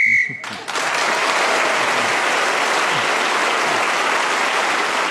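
A short, shrill game show whistle blast rings out for about half a second while Giles Brandreth is speaking, ending the round, followed at once by loud, steady applause from a studio audience that continues to the end.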